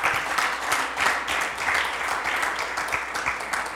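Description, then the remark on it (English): An audience claps their hands in praise to God in steady, dense applause, many overlapping claps forming a continuous bright rattle that stays fairly even in loudness throughout, with no voices rising above it. “Give him a hand clap of praise right there.”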